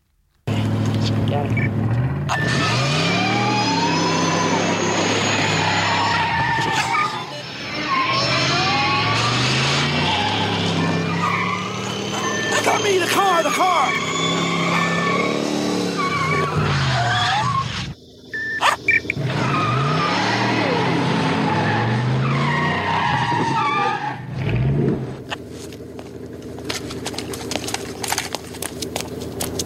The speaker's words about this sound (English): You're going to hear the car driving around. And Doc Brown is controlling it by remote control.